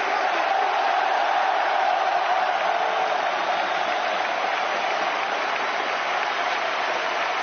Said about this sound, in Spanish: La ovación del Camp Nou a Ansu Fati, que volvía casi un año después.